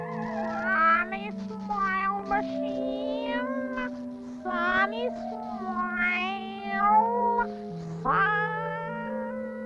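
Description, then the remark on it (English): A cat, the cosmic cat, meows several times in a row, each call rising and falling in pitch, loud, over a steady sustained musical drone. “Matilda meant that we should ask the cosmic cat for advice.”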